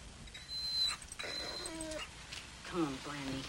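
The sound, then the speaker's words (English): A dog whimpers in a few short, whiny bursts, some with a thin high whistle, rising and falling in pitch at moderate volume over a low background hiss. “Why don't you walk the dog?”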